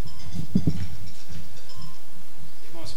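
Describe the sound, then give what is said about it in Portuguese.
A wife's wristwatch alarm beeps faintly in thin, repeating high tones, with a brief low thump early on and some muffled background noise underneath. “Perdão, é porque é o alarme do relógio da minha esposa.”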